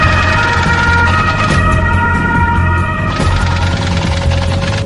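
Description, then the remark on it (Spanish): A loud siren from a quarantine ambulance rushing a smallpox patient to hospital in Dortmund, holding a steady wailing tone throughout, backed by a dense rumble of traffic or engine noise and no voices. “Sami Mahale es trasladada de urgencia al hospital de Dortmund en una ambulancia de cuarentena”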